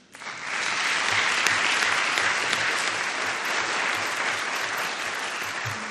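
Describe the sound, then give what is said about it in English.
Sustained applause from an audience, a dense, steady wash of many hands clapping that swells quickly and holds at an even, fairly loud level for several seconds, with no voices. “I didn't expect applauded”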